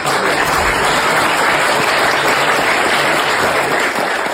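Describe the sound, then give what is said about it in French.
Steady, loud applause from an audience at an award ceremony, greeting the announcement of the 2024 Francis Baxter prize winner: a dense wash of many hands clapping that holds at an even level for several seconds with no voices standing out. “Donc, mesdames et messieurs, la lauréate du prix Francis Baxter 2024, que je vous demande d'applaudir, est Florine Malherbe.”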